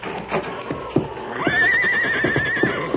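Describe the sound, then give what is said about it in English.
A horse named Silver whinnies nervously, a long wavering high-pitched neigh that rises and trembles for over a second, with shuffling hoof clops and thuds around it. “Silver, quiet, boy, quiet. That's it. Stop your trembling now.”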